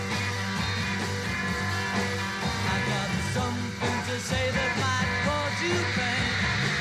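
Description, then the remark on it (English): A live recording of a band concert at Festival Hall plays loudly and continuously, with the band's music nearly buried under a dense wall of high-pitched fan screaming that never lets up. “There you are screaming at Festival Hall.”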